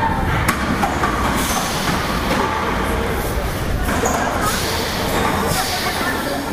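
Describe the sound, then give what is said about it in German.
A train pulls into a station, a loud, steady rumble and rattle of wheels and carriages that fills the whole stretch, with faint voices murmuring underneath. “So, jetzt kommt unser Zug.”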